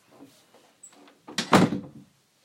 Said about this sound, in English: What are you doing? Why are you going through my drawers?